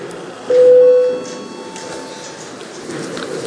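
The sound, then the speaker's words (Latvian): A parliament voting bell, rung before a vote on proposal 238, sounds as a single steady, mid-pitched electronic tone lasting under a second, loud against a low background murmur that carries on after it stops. “Lūdzu zvanu, balsosim par 238. deputāta Valaiņa iesniegto priekšlikumu.”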